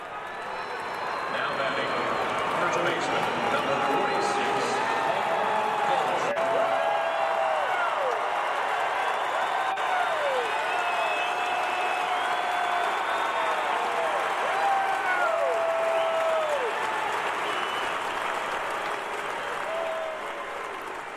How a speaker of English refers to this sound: But when he came up to bat in the top of the first inning, he got a rousing round of applause. Here's a little sample of what it sounded like.